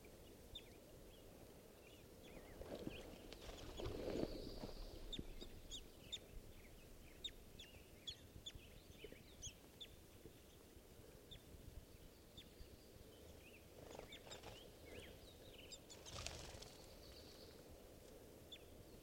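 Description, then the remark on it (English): Short, sharp bird calls and clucking chirps at a little waterhole by a scout camp at 7:30, repeating irregularly over a steady low rumbling background, with a few louder bursts of calling and no voices. “This is one of the birds, I'm not sure which.”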